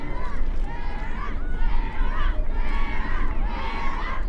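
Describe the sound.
A crowd cheers outdoors at a dock in Chatham, Massachusetts, seeing off a rower setting out to row across the Atlantic on flat water with calm wind; voices rise and swell in repeated waves over a steady bed of noise and murmuring chatter, loud throughout.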